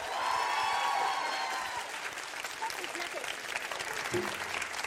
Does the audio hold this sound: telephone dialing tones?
no